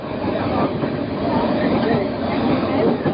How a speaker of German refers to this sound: Der Zug zuckelt mit 30 bis maximal 50 Kilometer die Stunde Richtung Norden.